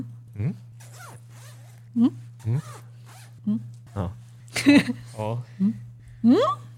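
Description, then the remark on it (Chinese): A jacket zipper, set on the left side of the jacket, is zipped back and forth in about nine quick strokes, each a short rasping zip with a rising pitch, over a steady low hum. “好，我的拉链呢在左边。”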